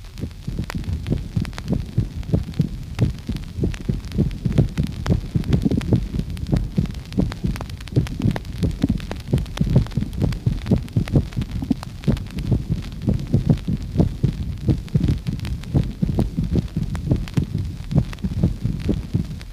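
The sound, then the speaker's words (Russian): Steady heartbeat through a stethoscope, recorded from a patient with mitral stenosis (narrowed left atrioventricular opening): low thumping beats repeating in quick succession with a faint rumbling hum between them, the second heart sound split; no voices. “Запись произведена у больного с сужением левого атриовентрикулярного отверстия. В связи с этим выслушивается также раздвоение второго тона.”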